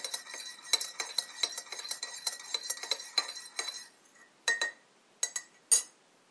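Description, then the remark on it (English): A spoon stirs honey into tea, briskly, in a teacup, producing a steady run of bright clinks against the china, then slows to a few separate taps at the end. “Okay, so I'm stirring the tea now. Just putting honey into Jana's tea”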